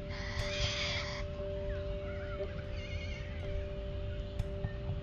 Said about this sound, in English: Gentle hum of life, the birds in the sky.